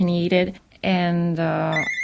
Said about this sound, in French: À deux reprises, le téléphone va sonner.